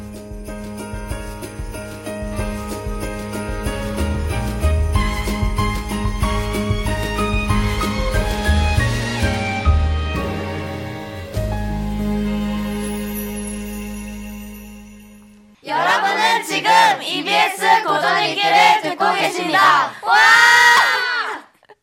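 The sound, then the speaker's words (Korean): A classics-reading radio segment logo jingle made by middle school broadcasting club students: about fifteen seconds of bright, layered music with steady rhythm, then a burst of excited young voices shouting together in loud, overlapping cries for the last several seconds. “네, 언제 들어도 상큼한 이 방송반 중학생 학생들의 고전읽기 로고였습니다.”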